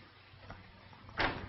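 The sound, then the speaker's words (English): A door is handled: a faint knock-like sound, then a short burst as a man enters a room and the door swings and shuts, with a low hum underneath. “Janet turns when he enters the room, closing the door.”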